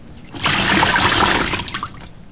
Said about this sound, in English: Then I take the large cup with my right hand and pour water over my left hand, like this.